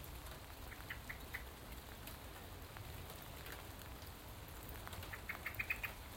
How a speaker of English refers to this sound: I love the way they just get on with business. Even though it's pouring rain. Teeming rain.